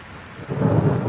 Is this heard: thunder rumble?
yes